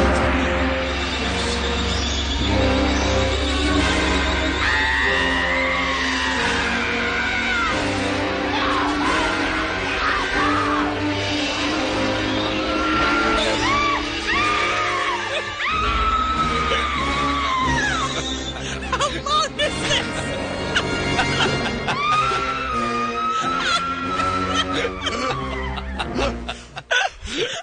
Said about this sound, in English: I turned on the light and clearly saw a spider running across the floor before hearing two stewardesses screaming, "Spider."